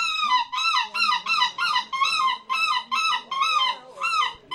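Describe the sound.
A person, the winner of a seagull calling competition, imitates a seagull with about nine loud, rapid squawking cries in a steady rhythm, each high and nasal with a slight downward bend, and no talking in between.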